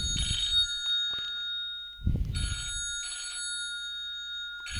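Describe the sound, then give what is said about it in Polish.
An old-style telephone bell rings in bursts, two double rings with a pause between, a bright metallic clatter with a low thump at each start and no talking. “Przepraszam, ale musiałem odebrać telefon.”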